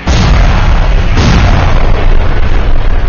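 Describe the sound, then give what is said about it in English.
Pipe bombs hurled at mutants on a cliff explode in a loud, continuous roar of booming blasts, with a fresh burst partway through and a heavy low rumble underneath throughout, no voices. “Hurriedly, fuses were lit and bombs were hurled to rain destruction upon the stickies on the cliff.”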